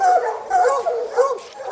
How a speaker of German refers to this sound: Das sind die Rüden, dahinter sind die Hündinnen.